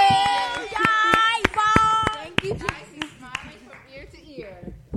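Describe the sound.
A scattering of sharp handclaps rings out, building into a brief round of applause, mixed with raised, tonal voices cheering over it before the clapping thins out and fades.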